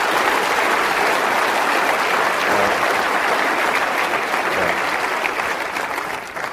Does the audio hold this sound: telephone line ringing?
no